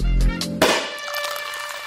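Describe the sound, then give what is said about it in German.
A single sharp, fairly loud pop from the cork of a bottle of well-chilled Crémant sparkling wine being opened, followed by a soft, steady fizzing hiss that lingers afterward. “Sollen wir erstmal einen Sekt aufmachen?”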